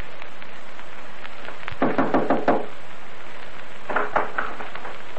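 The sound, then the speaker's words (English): Wilde knocking on Blueskin's wooden front door at night: a quick burst of about five raps, a pause, then a second shorter series of knocks, fairly loud and sharp over a faint hiss, with no voices. “Wilde had no inkling of this when he rapped on Blueskin's front door that night”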